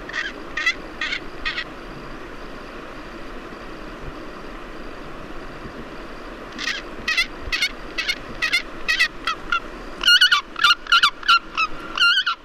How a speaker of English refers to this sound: So here is the real sound of a Pallas's fish eagle collected by Matthias Richard.